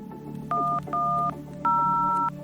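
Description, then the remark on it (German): Three telephone keypad tones as a man dials the police emergency number 110, two short beeps followed by a longer one, each a clear dual-pitch electronic tone over a low steady background hum. “Gegen 16.30 Uhr ruft Roland K. die 110 an”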